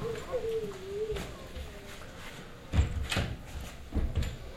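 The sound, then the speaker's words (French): A window being shut: a few sharp wooden clunks and rattles, following a faint whistling chirp early on, against a quiet, slightly noisy background. “Est-ce que je peux fermer la fenêtre, s'il vous plaît?”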